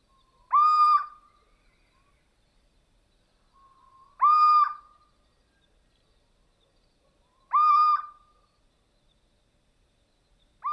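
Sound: little owl call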